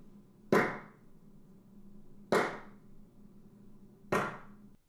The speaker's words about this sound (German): Das ist der Raum Stuttgart nach einer akustischen Maßnahme mit 3 Bildern. Das ist eine Testsequenz zum Bestimmen des Nachhalles von einem Raum. Ich werde jetzt dreimal in die Hände klatschen, um den Nachhall von dem Raum anzuregen.